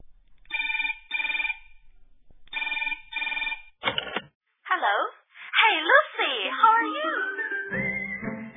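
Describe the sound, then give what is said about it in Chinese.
A telephone rings twice in a bright, trilling double-burst pattern, loud, then a brief clatter follows and a voice begins speaking. “电话铃声响了，是谁打了个电话呢？”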